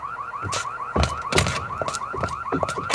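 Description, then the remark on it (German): A rapidly warbling electronic alarm, linked to the police, wails continuously and loudly, its pitch sweeping up and down in quick cycles, punctuated by scattered thumps and knocks. “Die sind mit dem Alarm kurz geschaltet.”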